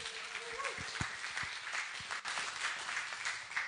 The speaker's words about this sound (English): So I won't say any more, but I would ask you just to give them one last big cheer and round of applause as they present to us about how to boldly go, particularly with a focus on Mozambique.